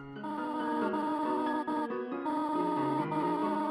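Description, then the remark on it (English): A steady stream of bright synthesized video game voice blips, pitched tones chirping quickly one after another as a character's gibberish dialogue types out in a text box, with no one speaking; the voice of Toriel, a motherly goat character wearing robes. “And a box appears and their dialogue types out. But the typeface and the pitch of their voices have a surprising amount of personality.”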